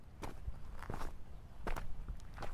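Footsteps of a girl walking toward Filip's car at an unhurried, steady pace, about eight crisp scuffing steps on a hard surface, with no one talking.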